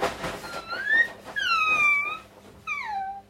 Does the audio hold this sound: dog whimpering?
yes